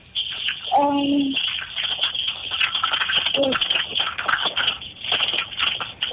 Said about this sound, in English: are you frying samosas?